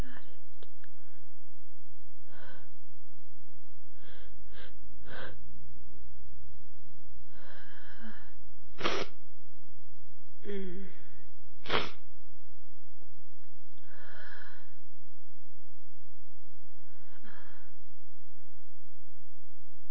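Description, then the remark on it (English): Sniffling and snorting, broken by a couple of sharp, loud sneezes midway, with short breathy sniffs scattered between them and no talking. “I'm not going to sneeze again.”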